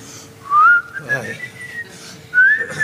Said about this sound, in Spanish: ¿No podría dejar de silbar, señor, por favor? ¿Qué pasa? Por un silbido, hombre. Cuando trabajo... silbo. ¿Pero usted no piensa que puede estar molestando a los demás con su silbido?